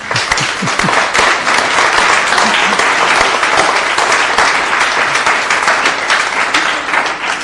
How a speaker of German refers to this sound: Ich hatte die Hoffnung, dass das auch nochmal ein Applaus wert wäre.